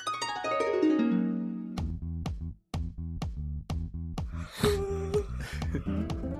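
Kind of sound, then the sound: human body sound, two yawns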